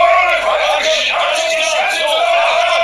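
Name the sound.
people shouting and yelling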